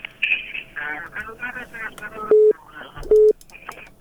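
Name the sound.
telephone line cut off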